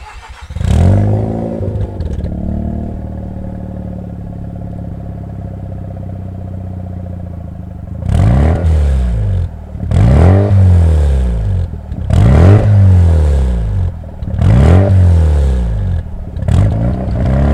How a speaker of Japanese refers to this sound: RX7、GF、FD、3S。 マフラーはバーテックスチタン、GD730。